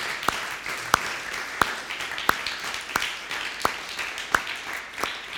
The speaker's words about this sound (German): Einfach mal einen fetten Applaus und ein Dankeschön dafür.